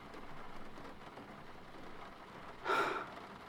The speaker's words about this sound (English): Just listen to that rain. It's just absolutely pouring out there.